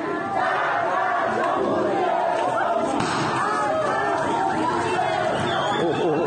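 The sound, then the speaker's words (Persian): A large protest crowd in Iran, protesting over water, chants and shouts slogans against the Islamic Republic in a dense, continuous roar of many voices that stays loud and steady throughout, while security forces fire, with occasional thuds in the mix. “شعار علیه جمهوری اسلامی و شلیک ماموران امنیتی.”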